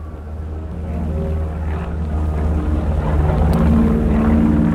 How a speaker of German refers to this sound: Da, schon wieder ein Flugzeug. Das ist schon enorm, was die da leisten.